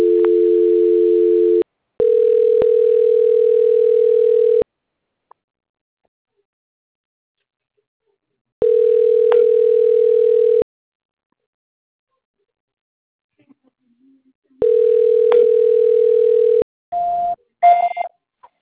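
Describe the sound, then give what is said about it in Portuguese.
A telephone ringback tone repeats while a call is being transferred: steady, low-pitched electronic bursts about two seconds long separated by longer silences, four rings in all with no answer, followed by a few short, higher beeps at the end. “Aí eu vou transferir para o Vitor.”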